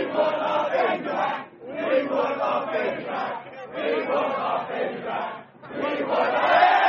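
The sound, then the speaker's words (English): A huge crowd in London chants "We want our baby back" in unison, repeating the phrase about four times with brief pauses between, loud and dense with many voices blending together. “And then the baby goes away and everyone starts chanting, "We want our baby back."”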